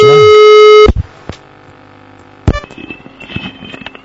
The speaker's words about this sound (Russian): Прямо сейчас позвоним в службу секс по телефону. Давайте, давайте, наберем, наяриваем.